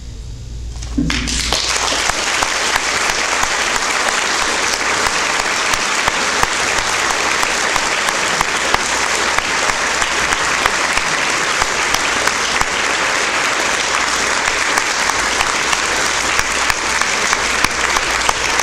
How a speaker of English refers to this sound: The time has been well spent, I'm sure you feel, and why don't we applaud the group again and we'll leave.